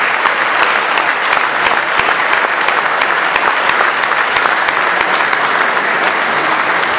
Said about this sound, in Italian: quindi un saluto che credo con un applauso possiamo accompagnare.